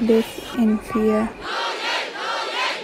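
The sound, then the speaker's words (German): A crowd of demonstrators, marching despite martial law and a ban on assembly, chants the slogan "Es ist unsere Aufgabe" ("It is our task") in unison, three rhythmic shouted bursts, then the chanting blurs into a broad, sustained roar of many voices. “Es ist unsere Aufgabe, skandieren die Demonstranten.”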